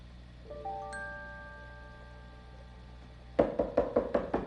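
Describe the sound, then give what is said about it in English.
A soft, lingering chime of tones fades out, then a quick run of about six sharp knocks on a door, evenly spaced and fairly loud, as Mr. McFeely arrives at the door with a delivery. “Oh, there's somebody at the door.”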